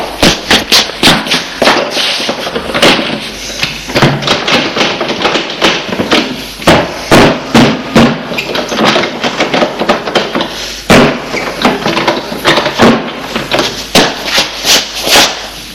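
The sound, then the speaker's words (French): A man repeatedly bangs and thumps on a door, rushing at it to try to open it, sharp loud blows in irregular rapid bursts with rattling in between, with no talking. “Il se rue sur la porte pour essayer de l'ouvrir.”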